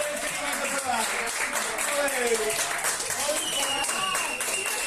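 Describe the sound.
A group claps steadily and continuously, the dense patter of applause running throughout, with several voices calling out and talking over it, as a patient on a stretcher leaves the intensive care unit of one of the largest hospitals in Andalucía, Spain, amid tears of emotion.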